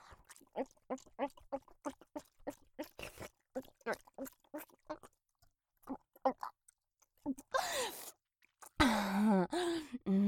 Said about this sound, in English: I love choking on him.